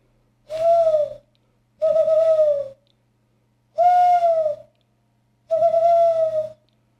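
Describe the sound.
A person at home whistles four steady, hooting notes in imitation of a bird call, talking to the birds, each note about a second long with short pauses between, loud, with no other sounds.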